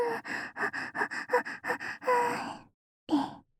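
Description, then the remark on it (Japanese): Heavy, rapid panting: about ten quick rhythmic breaths, then a longer drawn-out exhale, a brief silence, and one final sharp gasp. No talking. “負け犬みたいに息を荒げちゃう。”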